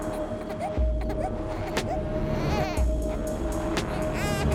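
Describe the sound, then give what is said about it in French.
A baby fusses and cries in short, wavering wails over a steady low rumble, with a faint continuous tone running beneath. “Mais le bébé, sentant l'angoisse de ses parents, se met à s'agiter.”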